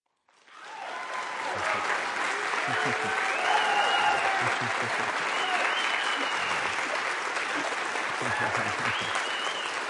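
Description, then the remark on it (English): Sustained applause from a large audience at a Writers on the Record event at the Harold Washington Library, rising quickly after a brief silence and holding at a steady, full level, with faint voices and cheers mixed into the clapping. “What a terrific crowd.”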